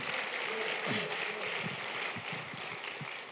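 Audience applause at a church service for the camera operator: a steady, dense wash of clapping from many hands that holds at a fairly even level throughout, with faint voices murmuring underneath.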